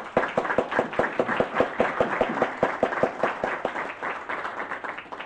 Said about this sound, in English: This time I'd like to introduce to you a man who needs no introduction, our Majority Caucus Chairman, who was just married, and I just wish you good luck, Joe, and maybe we all give him a round of applause.